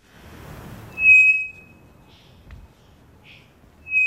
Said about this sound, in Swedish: Det vi hör här, det är en treflikig klockfågel som jag tror sitter i Amazonas.